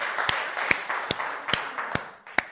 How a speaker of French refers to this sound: Ouais, on peut applaudir le Seigneur.